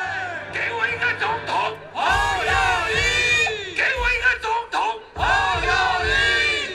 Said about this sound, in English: You can hear the guy on stage, he's saying, give me a president. And the crowd is saying, Ho Yo Yi, which is the name of the presidential candidate. He's basically chanting that over and over again.